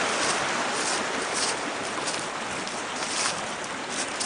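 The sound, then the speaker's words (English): Steady, full rush of water from a waterfall spilling and splashing into a pond, a dense continuous roar that stays loud throughout, with no voices. “There's a waterfall with water.”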